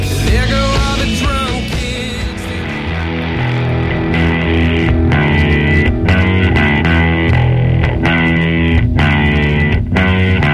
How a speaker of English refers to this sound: …, …. Dang, that's an ending.